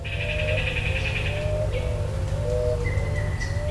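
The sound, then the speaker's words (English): Several birds call at a wetland restoration site in the Colorado River Delta, among planted cottonwood trees, over steady low rumbling noise: a high trilling chirp runs through the first half, repeated short whistled notes sound below it, and a thin sustained whistle comes near the end. “We hear a lot of them here.”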